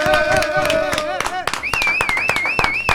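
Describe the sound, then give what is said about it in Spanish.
Audience applause: a steady patter of many hands clapping, loud and continuous, with a warbling, wavering tone rising higher partway through, like whistling over the clapping. “Forte, no, un fortísimo aplauso, por favor,”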